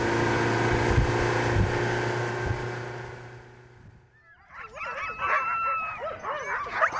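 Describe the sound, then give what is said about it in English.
A steady motor drone fades out, then teams of huskies tethered to squat wooden doghouses on the island of Shishmaref break into restless barking, yipping and wavering howls in the midday sun, overlapping one another. “Back on the island, teams of huskies bark restlessly in the midday sun, tethered to squat wooden doghouses.”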